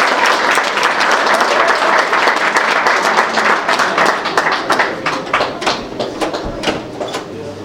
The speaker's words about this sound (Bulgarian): Да изпратим с аплодисменти момичетата от вокална група Феникс, ръководител Георги Холянов.